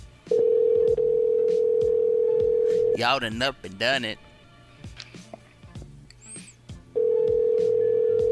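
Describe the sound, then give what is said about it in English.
A phone call going out: a loud, steady ringback tone hums for a few seconds, breaks for a burst of warbling tones and a brief voice, then the ringing tone resumes. “They're looking at the phone like, Who would this be? Who is this?”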